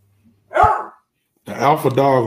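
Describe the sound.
A single sharp dog bark rings out, followed by a brief pause and then a person speaking.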